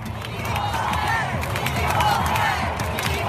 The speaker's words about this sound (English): That's right. Those fans are chanting equal pay. At a soccer game.